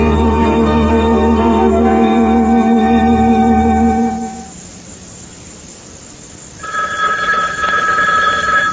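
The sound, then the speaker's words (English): A telephone bell at Shining Time Station rings loudly in two long bursts separated by a brief pause, with no one speaking. “The phones at Shining Time Station don't go around answering themselves.”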